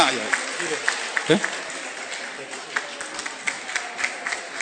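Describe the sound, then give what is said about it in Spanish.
A crowd claps steadily in a dense, crackling wash of applause that holds at an even level throughout, with scattered sharper claps and a murmur of voices underneath. The applause is for a young man who travelled from Peru, who is asked to stand up. “Vamos a darle un aplauso, si está por ahí, a ver que se ponga de pie.”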